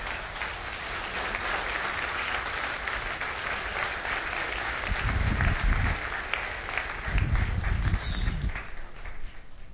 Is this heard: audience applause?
yes